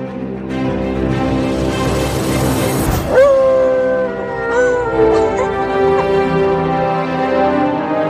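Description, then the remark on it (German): A dog howls in long, wavering tones alongside sustained instrumental music played by an orchestra musician, the howl rising and sliding in pitch and then holding over the steady notes, fairly loud. “Dann lassen wir sie zum vorletzten Mal heulen in diesem Jahr”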